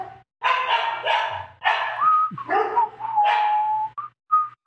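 A dog barks in a rapid string of about half a dozen loud, drawn-out, whiny barks with brief gaps between, then a couple of short yelps at the end. No one speaks.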